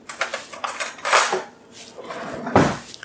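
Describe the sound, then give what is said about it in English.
Metal cutlery clinks and rattles in a series of bright, sharp taps, followed by a louder clatter, as a fork is picked up from among other utensils while preparing a pie filling. No one speaks. “What I'm going to do, I'm just going to grab a fork.”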